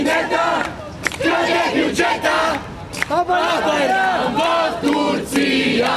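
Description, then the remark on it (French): A large protest crowd in Bulgaria shouts and chants at a street demonstration demanding the government's resignation and early elections, many overlapping voices rising and falling in a loud, continuous roar with a few sharp accents. “On demande la démission du gouvernement et la convocation d'élections anticipées, mais toute la classe politique est répudiée.”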